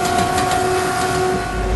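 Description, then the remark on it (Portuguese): A train rolls steadily along the rails on a route along the coast, with a continuous rumbling roar and a faint tonal whine, fairly loud, with no talking. “Seguimos de trem pela costa.”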